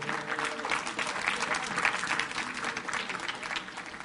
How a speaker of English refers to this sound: Thank you. Give our guys a big hand clap.